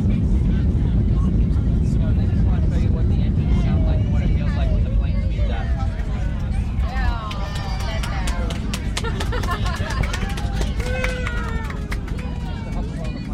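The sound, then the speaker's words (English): Airplane engines roar steadily as the thrust levers are pushed up for a simulated takeoff, a loud, constant low rumble filling the cabin while indistinct voices of parents and children carry on over it. “we're going to push the thrust levers up and let you know what it sounds and feels like for a normal takeoff”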